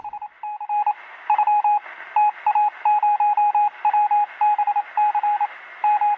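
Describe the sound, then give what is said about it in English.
A dial-up modem dials over a standard telephone line: a rapid string of touch-tone dialing beeps, short even bursts in quick succession with brief gaps, clear and fairly loud over a faint hiss, with no voices. “The third option is via a dial-up modem connection using a standard telephone line.”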